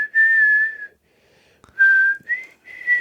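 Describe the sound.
Someone whistles a melody from Peter and the Wolf alone: a long, steady high note, a brief pause, then a few shorter notes stepping at a similar pitch, clear and moderately loud.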